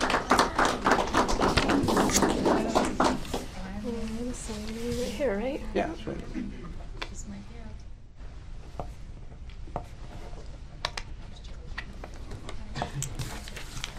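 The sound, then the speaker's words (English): A burst of applause for the newly sworn-in Iron County Recorder at an oath ceremony in Utah, dense and fairly loud for the first few seconds, thins out into scattered claps and taps while people talk and a voice rises over it. “How about a round of applause for her?”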